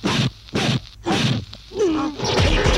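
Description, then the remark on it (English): A string of punchy kick impact sounds, four sharp thwacks spaced about half a second apart, followed by a brief whooshing swell and a rough, sustained noisy crash. No one speaks. “you are victorious by way of swift kick to the dick.”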